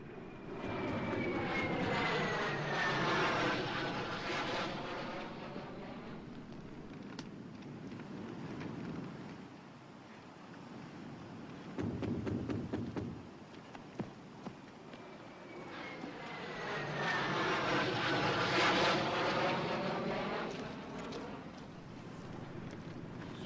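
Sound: airplane engine flying overhead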